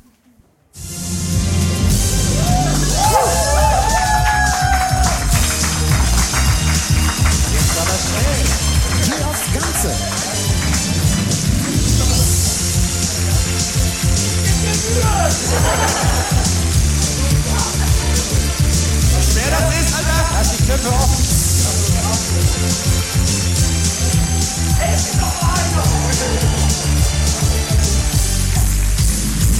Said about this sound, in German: dieser Jingle ist nur ungefähr 50 Sekunden lang.